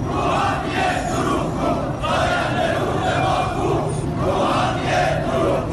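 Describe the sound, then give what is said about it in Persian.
A large crowd of farmers chants and shouts slogans together in rhythmic bursts, protesting the transfer of their Zayandeh Rud water to Yazd; a loud, dense wall of voices recorded outdoors with a steady roar throughout. “سال اعتراض‌های شهروندان به بی آبی و مدیریت نامناسب آب و انتقال آب از استانی به استان دیگر، از خوزستان گرفته تا فارس و اصفهان، با کشاورزانی که در اعتراض به انتقال آب زاینده رودشان به یزد دست از اعتراض و تجمع و شعار بر نداشتند.”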